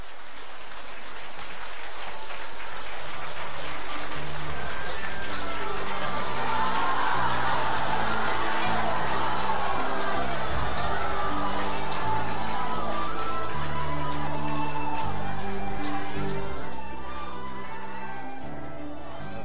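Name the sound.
warm applause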